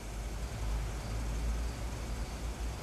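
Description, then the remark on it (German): A Jaguar luxury car pulls up outside a grocery store shortly before midnight with a steady, low engine rumble, a continuous drone that stays even throughout, with no voices. “Kurz vor Mitternacht fuhr Bob mit dem Wagen bei dem Lebensmittelladen von Torres vor.”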